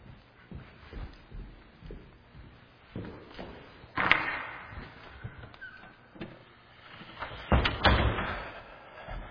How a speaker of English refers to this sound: Let me just briefly close this door.